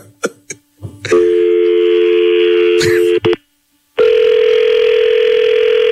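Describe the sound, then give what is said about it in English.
A few quick clicks of a number being dialed, then a loud steady electronic ringing tone that holds for about two seconds, cuts out briefly, and starts again. “Call it back, dog.”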